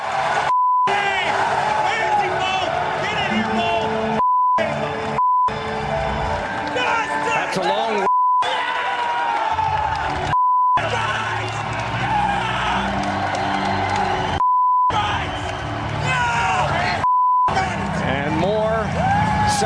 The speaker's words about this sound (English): And more screaming.